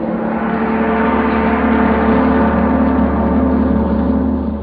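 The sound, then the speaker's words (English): A big brass gong rings out loud, its deep shimmering tone sustaining steadily for several seconds without fading, with no voices present. “That, my friends, was a big brass gong.”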